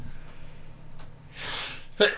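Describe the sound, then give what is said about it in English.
A single soft, stifled sneeze, a brief breathy burst of noise, then someone starts talking right after it. “Sneeze on the truth. Sneeze quietly, on it.”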